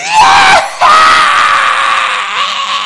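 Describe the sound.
A voice imitates a baby's wailing scream, loud: a sustained high cry, a brief catch of breath, then a second long drawn-out wail that slowly tapers.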